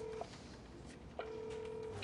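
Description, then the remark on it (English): A phone line's electronic tone sounds twice as a phone is raised in a conference room, a short beep followed by a longer steady ring after a brief pause, fairly quiet over a soft background hiss with no one speaking. “In the conference room, Bud raises his phone.”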